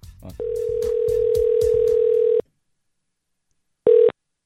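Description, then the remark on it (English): A steady electronic phone ringing tone of an outgoing call to a woman hums for about two seconds, falls silent, then starts again briefly, with some faint clicks and muffled voice-like noise near the start, before the call goes to voicemail. “And then I called her back and I said, Radar, start recording this”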